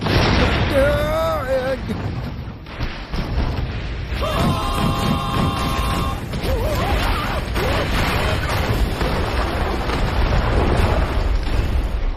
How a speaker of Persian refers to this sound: چی شد؟ آتش فشان؟